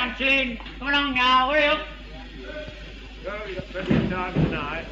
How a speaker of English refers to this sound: the last train, doors are slamming, quite a crowd. How many coaches are there, by the way? Anyone know that? Two coaches, all loaded. Thousands of doors are slamming, but quite a happy crowd all aboard.